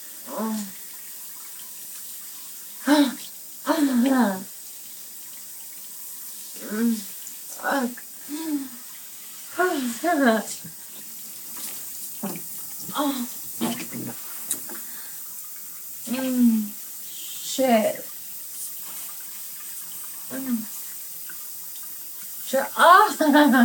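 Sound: shower head running water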